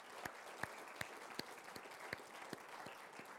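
A church youth group audience applauds two young people in a dense, steady wash of clapping, with a few louder claps landing in an even rhythm about three times a second. Nobody speaks over it.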